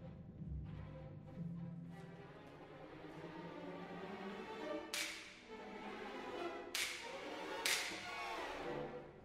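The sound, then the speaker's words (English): Three sharp, loud cracks of an orchestral whip (slapstick) ring out at uneven intervals over a soft, sustained orchestral backdrop, each a bright, snapping smack that quickly decays. “And before they all play together, the whip.”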